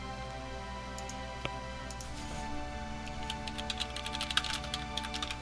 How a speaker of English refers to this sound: Oh, sorry, I'm just typing, don't mind me, typing mid-show.